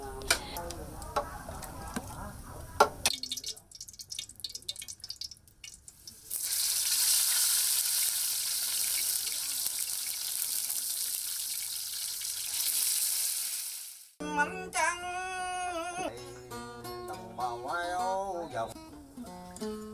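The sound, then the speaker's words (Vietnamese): Silver barb fish (cá mè vinh) frying crisp in hot oil gives a loud, steady sizzling hiss lasting several seconds, with a voice heard briefly before it and again after it stops. “Và có thể chế biến được nhiều món như kho lạc, chiên giòn hay nấu mẻ chua.”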